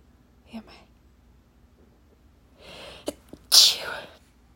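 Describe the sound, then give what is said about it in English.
One loud sneeze bursts out after a few seconds of quiet breathy build-up, with sharp inhales just before it. “I think I'm gonna sneeze.”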